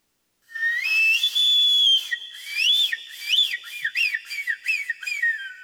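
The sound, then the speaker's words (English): A shrill, whistling eagle cry: a long high sustained note, then a run of rapid rising-and-falling piercing chirps, loud and alone with no talking. “And Eagle said, "Yes, this is my voice."”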